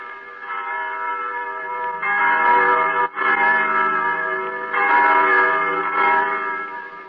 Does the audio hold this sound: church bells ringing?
yes